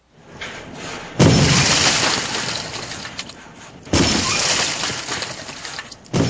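People wielding sledgehammers begin smashing a house in two heavy crashing blows, each followed by a long rush of crumbling, rattling debris, with a third impact starting at the very end.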